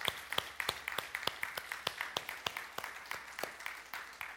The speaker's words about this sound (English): And since every woman was created in the image and likeness of God to be a mother, would all the women stand today? And can we give them a round of applause as well? All women together.